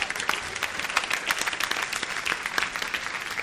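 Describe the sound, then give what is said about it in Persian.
An audience applauds steadily, dense overlapping hand claps forming a continuous, fairly loud wash of clapping with no voices standing out. “تشویقش کنم.”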